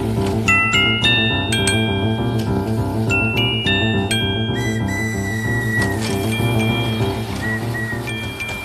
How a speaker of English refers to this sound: Well, there's the telephone.